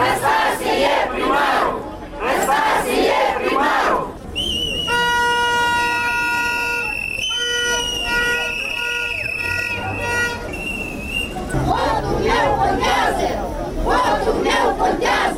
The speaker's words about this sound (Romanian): Zeci de susținători ai platformei DA și ai primarului ales Andrei Năstase au ieșit și azi în stradă, anunțându-și protestul mai întâi la judecătoria Chișinău, după care la primăria capitalei. Ei au cerut validarea mandatului primarului.